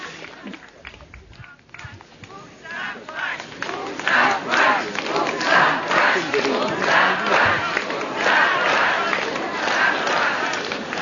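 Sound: crowd applauding and cheering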